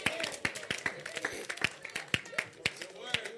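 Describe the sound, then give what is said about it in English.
An audience clapping for the Lord Jesus in a steady, fairly quick rhythm, sharp claps landing about twice a second, with indistinct voices running underneath. “Clap for the Lord Jesus.”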